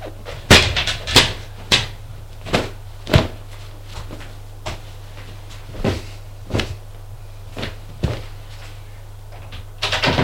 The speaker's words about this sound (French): La porte est ouverte. C'est la mère d'Alexis.